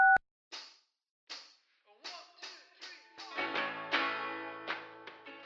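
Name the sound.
telephone keypad tone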